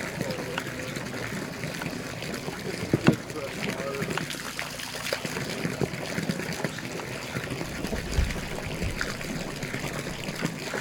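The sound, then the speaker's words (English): Well water pours steadily for several seconds, a continuous splashing trickle with small gurgles, with faint voices in the background; far too much is poured. “Oh my god, I accidentally poured way too much.”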